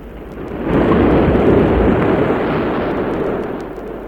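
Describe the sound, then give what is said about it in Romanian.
A huge sea wave rises like a wall and surges over the shore, a loud, broad roaring rush that swells after a moment and keeps churning heavily before easing slightly toward the end. No voices. “Minune, marea s-a ridicat ca un zid și putește țărmul.”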